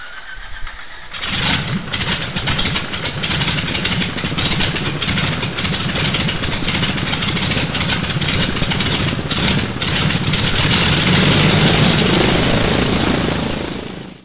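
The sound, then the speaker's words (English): A propeller aircraft engine is being started: it cranks and catches after a brief silence, sputtering unevenly at first, then settles into a loud, steady throbbing roar that swells slightly toward the end. “And before we start our show tonight, let's see if we can get the engine started.”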